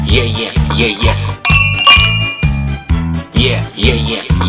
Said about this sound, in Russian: Колокола звенят. Колокола звенят.